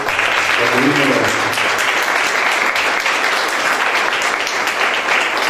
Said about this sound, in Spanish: Así que quiero pedir un fuerte aplauso para esa comisión que acompañó, que estuvo.